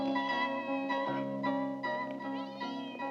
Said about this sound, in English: Hearing the meow, Martins looks over in the cat's direction, then hides behind a corner.